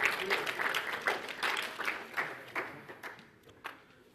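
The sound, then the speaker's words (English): An audience at a lecture breaks into applause for a man who helped set up the display. It is a dense patter of many hands clapping that starts strong and gradually thins out to a few scattered claps over about four seconds. “This man deserves a round of applause.”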